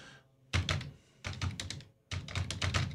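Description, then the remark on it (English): Rapid clicking on a computer keyboard in three quick bursts separated by brief pauses, fairly loud, with no voices, as someone searches for a Bible verse. “You can hear me clicking away.”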